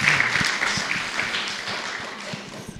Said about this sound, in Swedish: Ja, det är verkligen applåd.